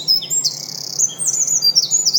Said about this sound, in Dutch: Ik kan dus hier stil gaan staan. Dit is een winterkoning hier.